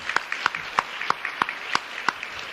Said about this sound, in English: All right. Why don't you give some applause to him still? Yeah.